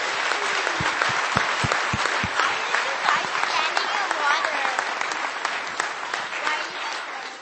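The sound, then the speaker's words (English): An audience applauds steadily for several seconds at the close of a church service, a round of applause to the Lord: a dense, even wash of many hands clapping, with a few heavier thumps early on and indistinct voices mixed in. “Let's do another round of applause to the Lord.”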